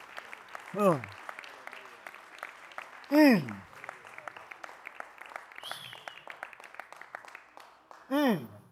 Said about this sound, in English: Somebody ought to clap your hands on a Tuesday night.